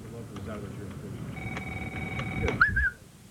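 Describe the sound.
A pink telephone in a phone booth rings with a steady, high electronic tone lasting over a second, followed by a brief warbling chirp, heard over low background rumble and faint muffled voices.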